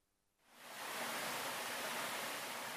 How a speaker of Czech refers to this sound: Vodenice su vjekovima bile važna karika u preživljavanju. Snaga tekuće vode pokretala je vodeničko kolo, a vodeničari su danonoćno mljeli žito